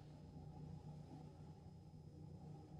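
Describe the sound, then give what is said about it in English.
A car engine idles steadily in a garage behind a locked door, a low, muffled rumble with a faint hum on top that holds even throughout, with no voices and no revving. “Engine's running.”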